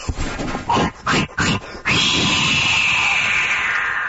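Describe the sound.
A person imitates a deer's snort wheeze: three short, sharp nasal puffs followed by a long, steady, breathy whoosh of air lasting about two seconds, loud and with no talking.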